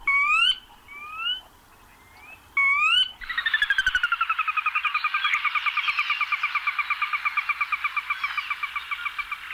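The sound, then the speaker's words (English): A Sora rail calls: a few rising whistled notes, then a long descending whinny of rapid, evenly pulsed notes that runs loud for several seconds. No talking. “I want to give a listen to, this one was recommended to me, this call, a Sora Rail.”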